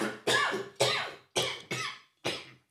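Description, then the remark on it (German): A man clears his throat in a series of five harsh throat-clearing coughs, fairly loud, coming in a quick uneven rhythm with brief pauses between them and no talking. “Ja, er räuspert sich richtig. Ja, genau so.”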